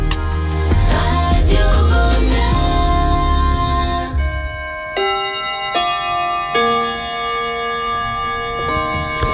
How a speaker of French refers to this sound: Vous écoutez Radio Bonheur au carillon de Radio Bonheur et sur les montres qui marchent, il est 20h01